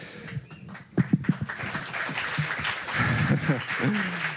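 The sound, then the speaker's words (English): An audience applauds steadily for a few seconds, a dense rush of clapping that swells toward the end, while a voice talks over it. “Always the bait for applause.”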